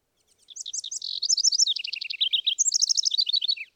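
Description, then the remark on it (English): A wren, a tiny brown bird, sings a rapid, complex song of many varied high notes and trills, bright and musical, lasting a few seconds with no voices. “And then it sings a very kind of complex, I'd call it kind of a breezy song with a lot of different notes and very musical.”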